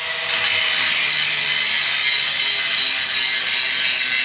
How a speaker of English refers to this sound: Taylor uses an angle grinder in his River West studio to show how he smoothed the rough edges of the rusted steel sculptures.